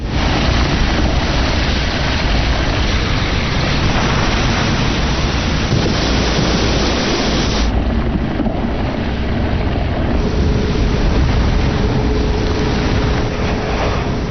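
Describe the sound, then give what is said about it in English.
A geyser in Yellowstone erupts as superheated underground water bursts into the air, with a loud, steady roar of rushing water and spray, a dense hissing surge that holds for the whole stretch without letup. No one speaks. “Underground water becomes superheated and erupts into the air.”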